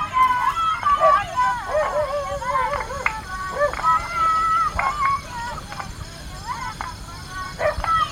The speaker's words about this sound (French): Tard dans la nuit, au milieu de la stridulation des insectes, des abois des chiens, les enfants réclament encore, ils aimeraient continuer de chanter.